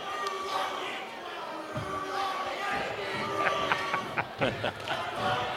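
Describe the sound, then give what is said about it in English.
A loud, raucous crowd roars and chatters continuously at a basketball game involving Sun Valley, with sharp sneaker squeaks and bursts of shouting cutting through the steady din. “Raucous crowd tonight.”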